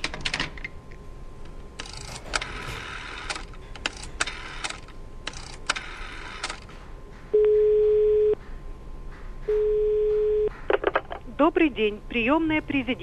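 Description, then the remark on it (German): Rapid clicking bursts like keys being tapped, then two long steady electronic tones a second apart, followed by warbling, sweeping line noise, all fairly loud with no voices. “August 1963 wird deshalb ein heißer Draht zwischen Moskau und Washington eingerichtet, genannt das Rote Telefon.”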